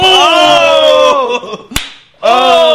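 A single sharp slap-like smack of a punch from a man hitting a woman in a fight video lands mid-clip, crisp and loud, briefly cutting through a dense, sustained tonal din of voices or music that drops away and then returns.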